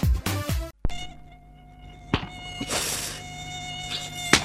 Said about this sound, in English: I don't know what to do about these mosquitoes anymore. With all the dengue fever and malaria they're carrying.